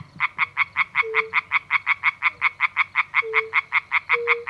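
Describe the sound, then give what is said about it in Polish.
A tree frog gives a fast, steady rattle of croaks, about five pulses per second, loud, with a faint low tone from another frog underneath, at a small pond in the middle of fields. “To ta, której dźwięki to szybkie rechotanie, jakby rzegoczenie.”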